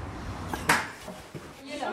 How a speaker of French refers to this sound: On va avoir des bruits de casserole, hein. La réunion du lundi midi.